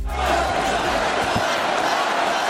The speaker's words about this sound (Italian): Urla, applausi e cori e quell'incitamento alla lotta pronunciato dallo stesso Trump sabato scorso appena sopravvissuto all'attentato